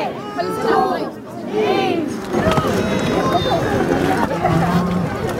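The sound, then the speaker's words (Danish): A crowd cheers and shouts excitedly as organic cows are let out of the barn onto pasture at 12 o'clock at Malmkjær Økologi in Herning, Denmark, with overlapping whoops and rising yells over steady loud chatter that continues throughout. “Klokken 12 gik staldporten op for de økologiske køer rundt omkring i hele landet til stor begejstring for både køer og de mange fremmødte.”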